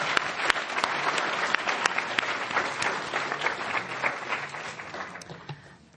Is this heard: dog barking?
no